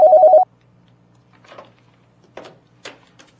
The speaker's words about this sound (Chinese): 先这样，我这儿来电话。